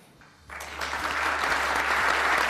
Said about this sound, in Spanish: Los aplausos tapaban la congoja del campeón al borde de las lágrimas.